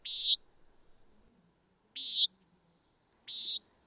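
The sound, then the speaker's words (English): A common nighthawk gives three short, buzzy, nasal calls spaced a second or more apart, each clear and fairly loud against a quiet, faintly murmuring background. “But you also mentioned the common nighthawk.”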